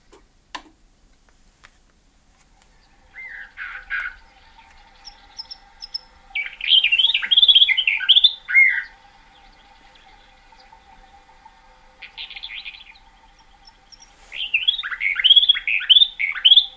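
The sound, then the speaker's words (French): A disc recording of a bird's Greek song: birds trade bright, warbling song phrases back and forth in short bursts separated by pauses, another bird answering, over a faint steady ticking in the background. “Voilà, alors là il y a un autre oiseau qui répond, c'est une autre.”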